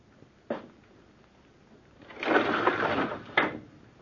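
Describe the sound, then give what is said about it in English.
A window is pushed open: a short knock, then a long scraping slide of the sash lasting over a second, ending in a firm thump, with no voices. “Anything else you want of me besides opening this window, Uncle?”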